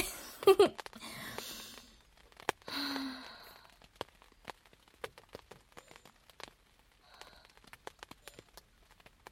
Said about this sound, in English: Your arms feel so nice around me, and I love the sound of rain on the tent.